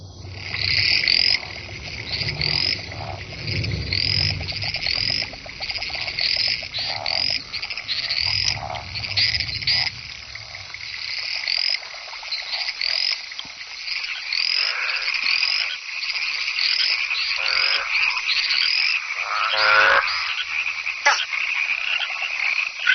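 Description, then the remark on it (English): A dense chorus of frogs giving competing courtship calls at night, rapid overlapping croaks and trills filling the air continuously, loud, with a low rumble in the first half. “The cacophony of competing calls seems deafening to us, but frogs' ears are tuned to hear only the calls of their own kind.”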